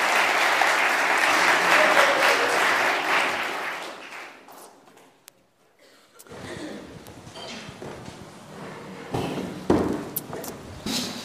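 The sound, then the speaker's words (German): A crowd applauds warmly for about four seconds to welcome four guests onto a stage, dense clapping that fades out, followed by a quieter stretch of background noise, shuffling footsteps and a few knocks and bumps. “Begrüßt doch mal mit einem ganz herzlichen Applaus hier vorne auf der Bühne.”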